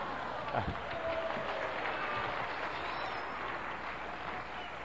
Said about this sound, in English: Hey, wait a minute. Don't clap for him.